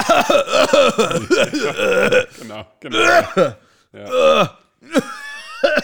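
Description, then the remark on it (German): A voice imitates rapid, strained laughter that breaks into several rough, throaty coughs and groans, loud, with short pauses between the final bursts. “Einfach der statt da Lachen nur mehr, kann nicht mehr lachen, sondern nur mehr husten.”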